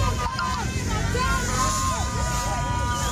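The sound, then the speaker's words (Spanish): A loud street clash between taxi drivers and riot police using gas and Molotov bombs in western Bogotá, Colombia: a crowd of voices shouting and calling over a constant roar of traffic and engine noise, dense and chaotic from start to finish. “Fue allí donde los grupos de choque actuaron, sacaron los gases, sacaron las bombas Molotov”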